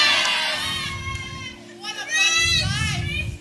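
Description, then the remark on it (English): A church audience shrieks and cheers at the preaching in excited, overlapping bursts, loud, swelling twice over a few seconds with a busy, high-pitched clamour. “But they are screaming at the word of God.”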